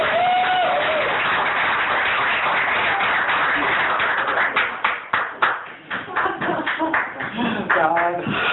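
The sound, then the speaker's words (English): A crowd at an ACE group meeting applauds a member coming up to speak, in a steady, dense wash of clapping that thins into scattered individual claps. Voices call out briefly over the applause. “We're still clapping.”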